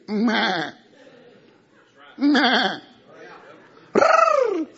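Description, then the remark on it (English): A person imitates a sheep, letting out three loud, wavering bleats, each about half a second long with short pauses between them, the last one rising and falling in pitch. “Now the only thing he has power over is sheep.”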